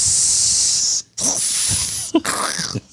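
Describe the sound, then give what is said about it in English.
A person hisses in disapproval: three long, sharp, airy hisses in a row, each about a second, loud and breathy with short gaps between, and no talking. “Which I do that more than booing is I'll hiss.”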